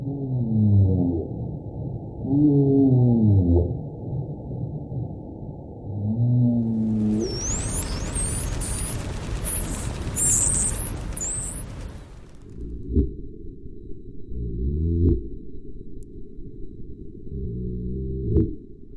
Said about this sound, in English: Those beautiful, haunting sounds were the calls of the humpback whale, the Atlantic spotted dolphin, and the gray seal.